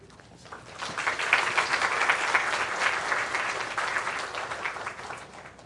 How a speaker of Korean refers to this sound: 나오실 때 여러분들이 오늘은 예배 형식이 아니니까 여러분들이 환영의 박수를 하셔도 무방할 것 같습니다.